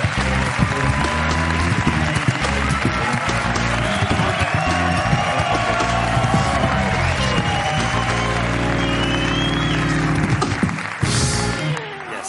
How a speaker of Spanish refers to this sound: Viene Jorge Ponce, ¿no? Pues un aplauso para Jorge Ponce, joder.